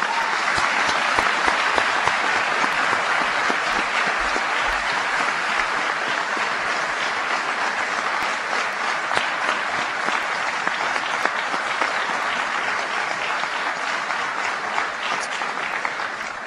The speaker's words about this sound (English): Please give a big round of applause to Virginia's own, John Warner and Jim Witt.